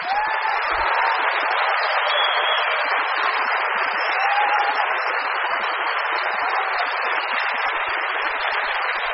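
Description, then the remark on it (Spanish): Sustained audience applause for Juan Pablo el Grande, a dense, steady roar of many hands clapping at an even loudness for several seconds, with faint voices mixed into the wash. “Aunque solo fuera por esa frase, yo sí que voy a pedir un aplauso para Juan Pablo el Grande.”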